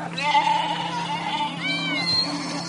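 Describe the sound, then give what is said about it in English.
A herd of goats and sheep on a farm that keeps 300 goats, 60 sheep and 80 cows bleat continuously, several wavering, nasal cries overlapping over a steady background of farmyard noise, with no pause across the short stretch. “Established back in 2010, the farm has 300 goats, 60 sheep and 80 cows, comprised of both local animals and hybrids.”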